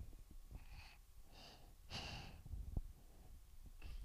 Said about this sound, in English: She's breathing like it's like it's Darth. She's Darth Vader or something.